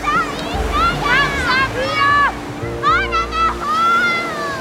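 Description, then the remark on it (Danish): Steady wash of sea water and surf, with excited children's voices shouting and calling over it as girls splash and bathe in the sea in good weather. “Mens pigerne allerede bader i havet, er nogle af drengene stadig ved at tjekke ind.”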